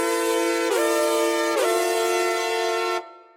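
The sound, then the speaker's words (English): Brassy, slightly shrill synth chords hold loud and steady, sliding into a new chord twice, three sustained chords in all, before cutting off abruptly, with no voices. “Introduced midway through this section are these brassy, slightly shrill synth chords.”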